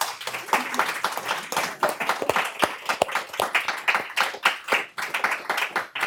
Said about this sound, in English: A real round of applause. I think it is the sign of brilliant panelists when the conversation could continue for hours. So thank you all so much.